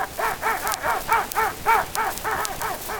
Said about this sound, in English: My dog, he is my dog. Folks say you got a pedigree. You surely didn't get it hanging around with me. You're my dog. You is my dog. And you the finest dog of that born in Tennessee.